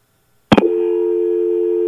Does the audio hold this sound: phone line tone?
yes